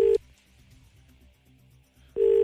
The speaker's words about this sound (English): Oh, it's ringing. It's ringing. It's ringing.